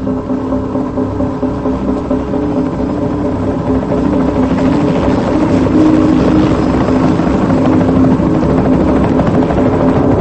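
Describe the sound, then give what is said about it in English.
A helicopter's rotor and engine roar, a loud, steady, throbbing drone that swells slightly midway and holds strong to the end, with no voices, as the helicopter flies off after lowering a crashed plane's wing fragment by cable onto a pier. “A worker rushes over to unhook the cable, and the helicopter flies off.”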